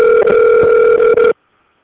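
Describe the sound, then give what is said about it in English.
A loud, steady electronic phone ring tone, like a ringback heard over the line on an outgoing call to Memphis, sounds once for just over a second, then cuts off abruptly into silence. “Another Memphis call here, OH.”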